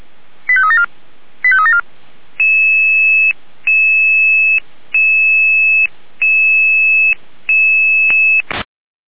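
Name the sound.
radio dispatch alerting tones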